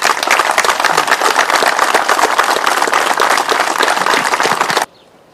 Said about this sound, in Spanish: Y bueno, nuevamente muchas gracias y también un fuerte aplauso para los chicos, que esto que tenemos acá es gracias a ellos también.